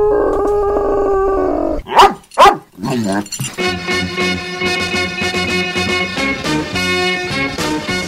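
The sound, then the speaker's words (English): A dog, Radio Marty's dog Sean, lets out a drawn-out whine, then two sharp, loud barks, before a full band of music kicks in and carries on steadily. “It's time to lock your seat back, slat your tray tables, and listen as we take off on another 3D adventure in sound with Radio Marty and his lucky dog, Sean.”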